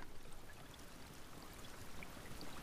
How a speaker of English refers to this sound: Oh, this is real nice. This is just some rain noises.